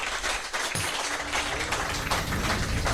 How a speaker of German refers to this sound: Kleiner Applaus hier erstmal für unseren Tontechniker.